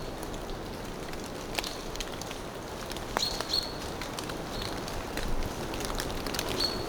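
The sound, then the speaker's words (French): Steady patter of water droplets falling all around in a mixed forest of firs, broadleaf trees and ferns, with dead leaves and twigs on the ground, with a few short, high bird chirps breaking through now and then; no voices, just continuous outdoor dripping. “Ponctuées par le chant des oiseaux et des gouttelettes incessantes.”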